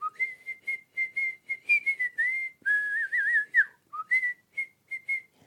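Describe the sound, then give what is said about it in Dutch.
A woman, a grandmother, whistles a bright, cheerful tune: quick, bouncy short notes, a wavering trill in the middle, then more lively notes, with no talking. “Maar niet als hij zijn vrouw hoort fluiten.”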